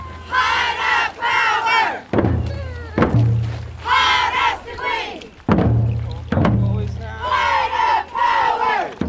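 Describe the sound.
A crowd cheers and shouts encouragement to people carrying a pole uphill in a procession under intense sun, in loud, surging bursts, punctuated by several heavy thuds as the voices rise and fall in repeated waves.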